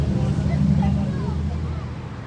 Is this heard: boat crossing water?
yes